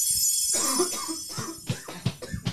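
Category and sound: human body sound, man coughing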